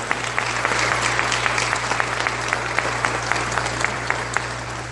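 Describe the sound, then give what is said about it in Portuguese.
A crowd at an award ceremony claps steadily for several seconds to thank their teachers, directors and school staff, dense overlapping handclaps with a few sharper individual claps standing out over a low steady hum. “E eu quero que vocês aplaudam aqueles que fizeram vocês chegarem até aqui agora.”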